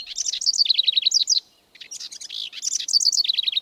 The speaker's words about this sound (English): What about the song of a house wren? Would you call this a trill or a cascade?